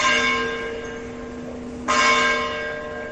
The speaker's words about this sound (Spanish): Bueno, pues así viene este miércoles 16 de diciembre, en el que las campanas de las iglesias, por cierto, han sonado con mucha fuerza.